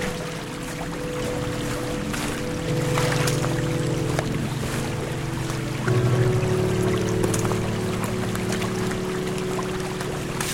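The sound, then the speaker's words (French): Steady flowing water from a small stream beside a small fountain, the stream joining the Vienne river; a continuous rushing, mixed with a low droning hum that shifts pitch partway through. No one speaks. “Voilà la petite fontaine. Le ruisseau que je vous disais tout à l'heure qui coule.”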